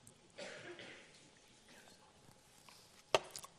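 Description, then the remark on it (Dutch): Someone takes a sip of water: soft rustling and breathy slurping sounds, then a sharp click near the end, like a glass being set down. No one speaks. “En ik pak even een slokje water.”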